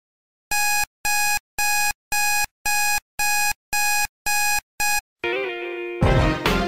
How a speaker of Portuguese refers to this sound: Então, às 5h20 da manhã, o som do ronronar é substituído por um alarme.